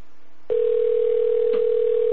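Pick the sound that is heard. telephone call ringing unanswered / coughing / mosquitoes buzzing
telephone call ringing unanswered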